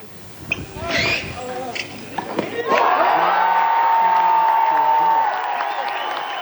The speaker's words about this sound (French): Il s'est imposé sur un ultime match avec les acclamations du public en prime.